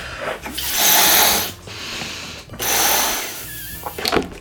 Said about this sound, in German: Du musst jetzt einmal den Luftballon aufpusten. Genau, ich versuch's zumindest.